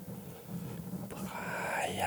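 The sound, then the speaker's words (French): A hushed, breathy murmur of many overlapping whispering voices, as if 10 or 20 people were whispering at once just behind a door, calling someone's name, soft and continuous, with no clear words, swelling slightly in the second half alongside a faint eerie tonal shimmer. “Cette voix, comme si 10 ou 20 personnes chuchotaient tout en même temps, juste derrière la porte, à appeler son nom.”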